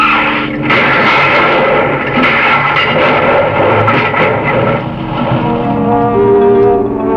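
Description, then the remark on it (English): A rapid volley of sharp gunshots, fired at the car's tires, cracks over the steady roar of a car engine on a rain-slick road, loud and continuous throughout, with no voices. “Shooting at my tires.”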